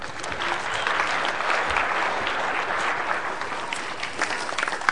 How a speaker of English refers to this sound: Okay. Give her a clap.